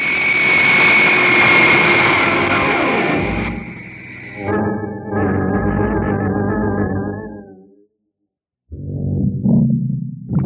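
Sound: jet airplane engine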